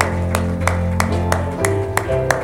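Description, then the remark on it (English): An audience at a church service claps their hands in praise in a steady, even rhythm, about three claps per second, over sustained organ-like music. No one speaks. “Let's give him another hand clap.”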